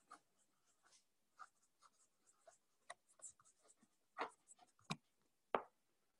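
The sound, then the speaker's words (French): A pen scratches across paper in short, irregular strokes as someone writes a note by hand, with a few sharper taps and scrapes near the end. It sounds quiet, and no one speaks. “Alors, attends, ça, je me le note.”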